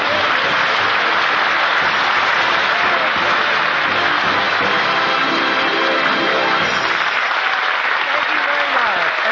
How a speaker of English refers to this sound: They're all over the cast is applauding. Wait till they open up their presents.